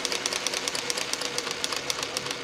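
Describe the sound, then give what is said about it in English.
A sewing machine runs steadily as a man uses it to assemble shoes from recycled rubber, its needle producing a rapid, even mechanical clatter, with no voices over the whirring rhythm. “uses a sewing machine to assemble shoes from recycled rubber.”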